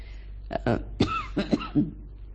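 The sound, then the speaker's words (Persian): A series of raspy coughs and throat clearing, several short bursts in quick succession over about two seconds, with no speech, from someone with a lingering allergy caught in Tehran because of the air quality. “من عذرخواهی میکنم از صدای دورگه هم که تحت تأثیر سرفه های فراوان و یک آلرژی طولانی که چه عرض کنم، فکر کنم در ایران، در تهران دچار یک آلرژی 3-4 روزه شدم که ادامه دار هست به خاطر وضعیت هوا.”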